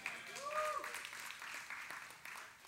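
A church audience at Bethel claps together, a steady wash of applause, with a brief rising whoop or cheer cutting through near the start.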